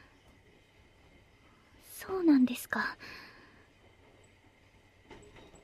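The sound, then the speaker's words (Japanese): A steady, low rumble of a moving, packed train carriage that is swaying strongly fills the background, with a quiet whispered voice speaking briefly over it partway through. “電車がすごい揺れてぶつかってしまいました。”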